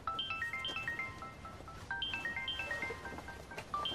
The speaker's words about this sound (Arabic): موبايلي عم يرن هلأ، بعدين بتصل فيكي.